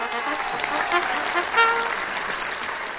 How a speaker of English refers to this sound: I think we probably need some sort of big round of applause here